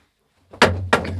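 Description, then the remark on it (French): A body falls with a heavy thud, two loud impacts in quick succession over a low, steady rumble, with no voices. “Un bruit de chute”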